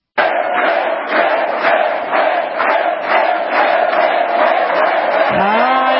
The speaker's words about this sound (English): Tonight, can you hear the chants? This is what it sounded like over the weekend at a couple of campaign stops for one obvious candidate.